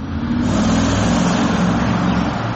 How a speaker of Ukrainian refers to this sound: 22 червня, Київ, бізнес-центр Карнегі. Охорона підганяє 2 автівки під вихід.